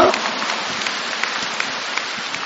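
Steady audience applause, a dense, even crackle of many hands clapping throughout, with no one speaking over it.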